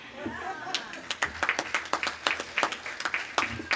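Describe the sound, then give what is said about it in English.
An audience of the National Federation of the Blind breaks into applause at mention of marching in the African American Day Parade, a brisk patter of many hands clapping at an uneven rhythm that holds steady for several seconds, with faint voices murmuring underneath. “It's probably the first time that the African American Day Parade got a big applause from the National Federation of the Blind, but I can't wait to get there.”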